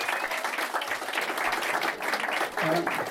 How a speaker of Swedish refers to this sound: En varm applåd